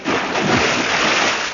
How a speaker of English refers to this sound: Oh, yeah. I got the maker's guarantee on this record. Oh, listen. This water is genuine, and any copy of it will be confiscated. Remember, only genuine water makes this sound.